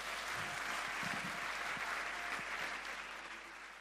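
Sustained audience applause, a dense, steady wash of many hands clapping at full volume throughout, with a few low thumps mixed in, fading slightly toward the end.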